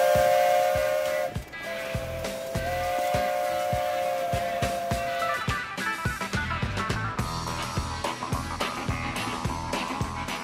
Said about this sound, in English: And did I mention steam locomotives?